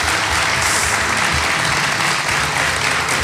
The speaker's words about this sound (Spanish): Yo creo que merece José Antonio un aplauso cariñoso.